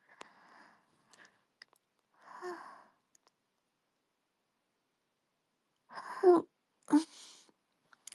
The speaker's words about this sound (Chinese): 打个哈欠。